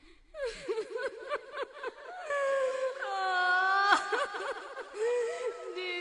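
A woman wails in grief among children at Jannat Abad cemetery, throwing dirt on her head, her voice rising and falling in long, quavering cries with sobbing breaks. The wailing is fairly loud and continues without pause.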